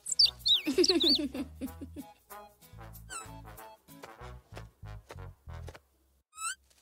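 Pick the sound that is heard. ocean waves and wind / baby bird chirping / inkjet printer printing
baby bird chirping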